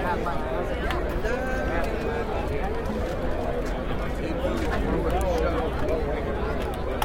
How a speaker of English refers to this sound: All right. Just crowd noise, anyway. No lines. That's all right. Kind of gives you the feeling of being there.